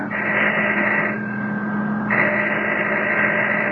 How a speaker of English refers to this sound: All right, we'll start legit. I'm ringing the doorbell.